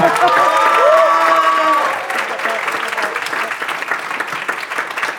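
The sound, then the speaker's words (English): A live audience at the DFTB 18 event claps steadily for about five seconds, with whoops and a rising whistle near the start; the loud applause eases slightly after the first two seconds. “So just to prove that we're actually here, can everyone give us a big round of applause and make some”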